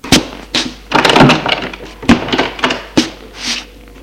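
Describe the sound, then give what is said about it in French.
A door inside a house, beside a bedroom, being opened: a quick series of sharp thuds and clunks with rattling, scraping handling in between, fairly loud, with no voices. “Ouvrir la porte qui se trouve à droite de sa chambre.”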